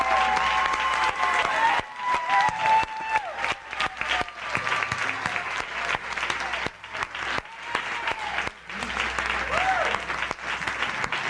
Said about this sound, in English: Saints, give your leaders a hand clap. Give it to them.